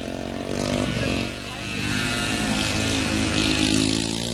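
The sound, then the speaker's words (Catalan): A small two-stroke Derbi moped engine buzzes and revs steadily as it passes through a village, its pitch shifting slightly, loud and continuous for a few seconds with no talking. “Llavors sempre hi havia el que et recordava que estaves al poble perquè passava la típica derbi paleta”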